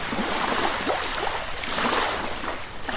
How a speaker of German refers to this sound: Im Hintergrund kann man sich dann vorstellen, das Rauschen der Autos von der Autobahn. Ist das Meer? Mit ein bisschen Fantasie geht es.